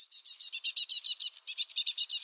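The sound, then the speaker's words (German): Young tits chirp rapidly in a nest box, a dense, continuous run of high, buzzy begging calls pulsing steadily with a brief gap midway, moderately loud and with no talking. “Ja, wenn man mal wieder diesen Sound hört von kleinen Meisen im Nistkasten, dann gehen da vermutlich, wie du so schön sagst, ja, Proteinsäcke über die Theke.”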